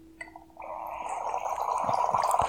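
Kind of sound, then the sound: food or drink, pouring a drink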